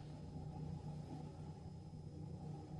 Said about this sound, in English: Engine's running.